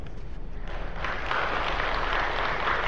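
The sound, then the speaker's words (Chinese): An audience of Catholic parishioners, priests and nuns claps steadily, a dense wash of many hands that swells slightly louder partway through and continues without pause; no one speaks over it. “咁客气又唔使拍手掌系嘛？”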